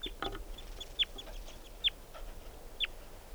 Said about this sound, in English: Wild bird. So recording collected that bird. It's a juvenile. And he's with two others.